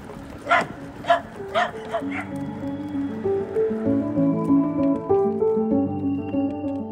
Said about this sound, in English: Lots of dogs, huh? Yeah, you tell them.